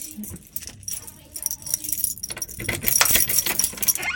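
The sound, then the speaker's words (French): Keys jangle and clink in bright, metallic bursts, followed by scraping and rattling as a master pass key works a door lock, growing louder toward the end. No one speaks. “Ils ont les clés de toutes les portes. En fait, c'est un passe-partout.”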